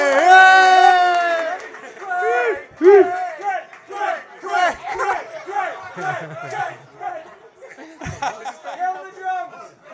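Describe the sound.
A crowd erupts in loud, overlapping cheers and whoops, many voices shouting at once with rising and falling pitch, likely mixed with applause, surging and dipping for several seconds.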